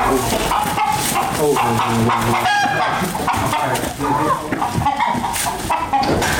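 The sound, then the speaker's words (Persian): Chickens cluck busily, with a rooster crowing among them, filling a loud, continuous farmyard scene with overlapping bird calls. “می خواهد بیشتر با مرغان نگاه و بین کند چون که آنها پرنده های اهلند.”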